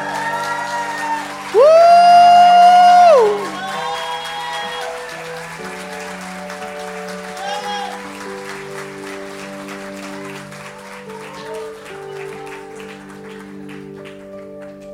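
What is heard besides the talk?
audience clapping hands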